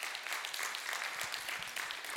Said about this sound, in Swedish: Så ska vi ge dem en applåd, eller?